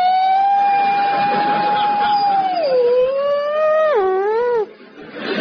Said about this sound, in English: And now we have these screamingly camp new sirens. Fire engines scream past the house going, "Woo!"